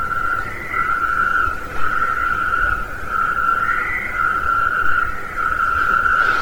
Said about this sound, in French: Donc il est intermédiaire entre le crapaud accoucheur et le crapaud commun. Il est un peu plus petit, hein, 7 à 8 cm. Je vais lancer le chant de suite.